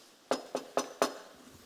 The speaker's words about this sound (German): Und er klopft an. Geht anklopfen. Da hört man es.